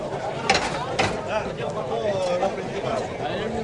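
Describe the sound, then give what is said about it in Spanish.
A bullring's bullpen gate (puerta de toriles) swings open with creaking, ratcheting mechanical clanks and a couple of sharp knocks, over a steady wash of crowd noise and voices. “Vamos a escuchar los sonidos de Toriles que me impresionan.”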